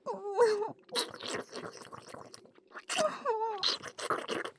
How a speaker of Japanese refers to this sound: おい、泣くな。うるんだ目やめろ。